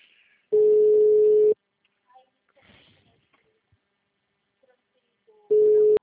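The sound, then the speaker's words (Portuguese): A telephone busy signal: a loud, steady mid-pitched tone sounds for about a second, then a long silence with faint rustling, and the tone starts again. “Assim que o telefone estiver disponível”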